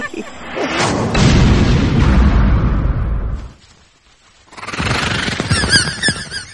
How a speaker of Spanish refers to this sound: De repente, muy alto, en el cielo nocturno, una explosión iluminó la selva. ¿Qué fue eso? Por la posición debería ser vuestra nave.